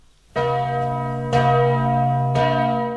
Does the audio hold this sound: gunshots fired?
no